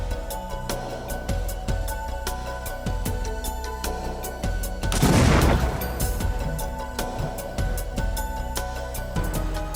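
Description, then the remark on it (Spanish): A loud explosion of a detonated package bursts out midway and rumbles for about a second, amid a steady series of sharper bangs and cracks throughout, with no voices. “El paquete final está listo para detonar.”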